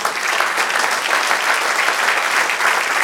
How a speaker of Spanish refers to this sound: Dale un aplauso, Señor.